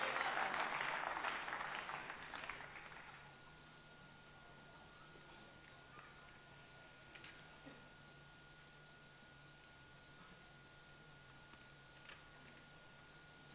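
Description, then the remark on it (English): An audience claps for the Lord in a dense burst of applause for about three seconds, then it fades out, leaving a low steady hum with a few faint scattered taps. “Clap them for the Lord.”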